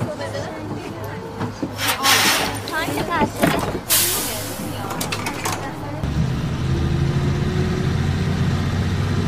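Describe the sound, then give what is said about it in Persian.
A bus engine idles with a low, steady rumble throughout as passengers board. Muffled voices and rustling sit over it at first, then the hum carries on alone, slightly fuller and louder. “مارال توی اتوبوس نشسته، همون زن میاد کنارش میشینه.”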